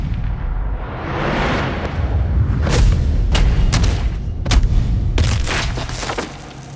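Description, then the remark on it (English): Heavy crashing smashes like stone breaking apart as men are smashed through a stone banister, with a series of sharp, loud impacts and deep thumping booms rumbling underneath, forceful, with no talking. “As two more men swing at him with their axes, he dodges them and smashes them through a stone banister.”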